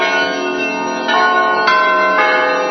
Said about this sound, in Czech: Zvonite, zvonite zvona i zovite nas grešne ljude na pokajanje, na očišćenje, na prosvjetljenje i Bože daj na oboženje.